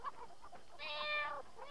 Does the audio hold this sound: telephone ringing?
no